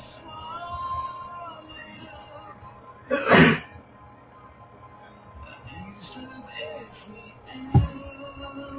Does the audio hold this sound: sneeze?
yes